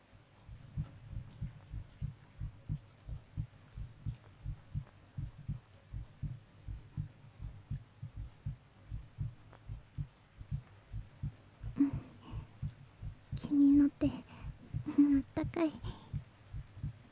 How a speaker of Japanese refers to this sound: ほら、聞こえる？わかるでしょ？私の心臓の鼓動、私もさっきから聞こえてるよ。